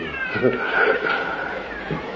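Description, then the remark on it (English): A person lets out a long, wavering, drawn-out moo in imitation of a cow, loud, filling the whole moment with no other talking. “Somebody said, moo.”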